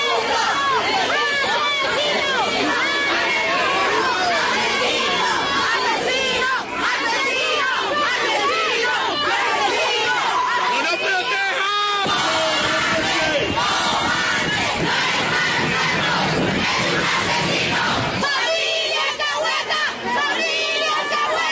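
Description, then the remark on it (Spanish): A large crowd of angry protesters in Bogotá shouts insults and jeers amid shoving and thrown objects as police take suspect Rafael Uribe Noguera out of the Clínica Navarra; many voices overlap in a loud, chaotic uproar that swells and shifts throughout without pause. “En medio de insultos, empujones, gritos y objetos lanzados por los manifestantes, le dejaron escuchar la indignación por el delito cometido contra la niña Juliana Andrea Zamboní.”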